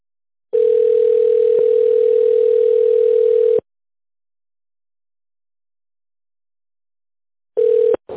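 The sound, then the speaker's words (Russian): A steady, mid-pitched telephone ringback tone, heard by a caller to the company Svaenergo who is waiting for an operator, sounds in a long burst of about three seconds, falls silent for several seconds, then starts again briefly before cutting off. No one speaks. “Наберите внутренний номер сотрудника или дождитесь ответа оператора.”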